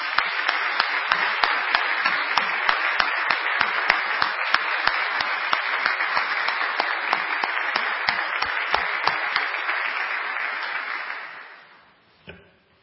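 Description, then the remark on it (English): A crowd applauds a standing team and their leaders, many hands clapping in a dense, sustained wash for about eleven seconds before it fades out, followed by one faint thump. “Let's give them all a hand of applause.”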